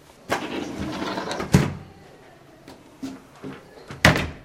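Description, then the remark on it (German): A heavy door at the entrance of a cultural venue swings shut with a sliding, scraping sweep followed by a solid thud, then a few lighter clunks and a second sharp knock as it settles. “Ich habe jetzt die Türe geschlossen.”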